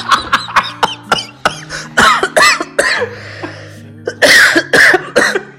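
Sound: hiccup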